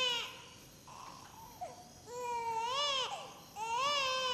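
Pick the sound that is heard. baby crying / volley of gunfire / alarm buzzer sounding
baby crying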